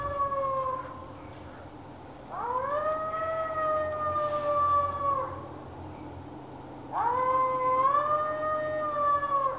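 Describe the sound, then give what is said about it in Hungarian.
A three-month-old wolf pup howls in drawn-out, wavering calls, slightly thin and unsteady, with two long howls rising and holding over a low background rumble. “Tehát neki még egy 3 hónap kell ahhoz, hogy itt komoly farkas legyen belőle”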